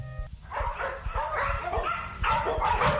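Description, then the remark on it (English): A dog in a pet shop barks repeatedly and fairly loudly, a quick run of sharp yapping barks that continue steadily over a few seconds with no one talking. “Here's the pet shop. They're buying a dog.”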